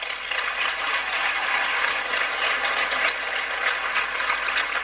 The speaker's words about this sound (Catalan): Un aplaudiment per a ell.